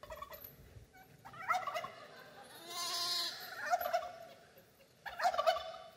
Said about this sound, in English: Watch for the turkey. There it is.